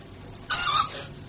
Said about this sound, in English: What in the devil's name was that? Screech Owl has found himself supper, that's all.